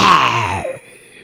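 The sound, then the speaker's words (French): A human voice imitates a lion's roar with one loud, rough, groaning bellow that slides downward in pitch for about half a second, then cuts off into near silence. “Et ce rugissement l'a réveillé.”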